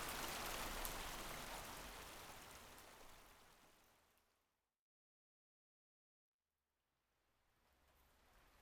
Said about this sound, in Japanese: 濡れちゃ、服もどうしよう。そうだ、あっちに洞窟っぽいとこあったよね。雨宿りしよう。